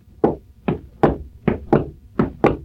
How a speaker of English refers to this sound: Now you hear the conductor's footsteps when he enters the pit.